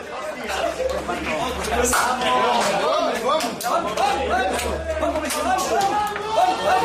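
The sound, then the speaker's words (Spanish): Several voices shout and cheer over one another in the Atlético de Madrid locker room after the match, as Cholo Simeone bangs and shouts at the Atlético de Madrid footballers, punctuated by sharp bangs and slaps, with a steady low hum underneath throughout. “Esos son los golpes y los gritos de Simeone a los futbolistas del Atlético de Madrid.”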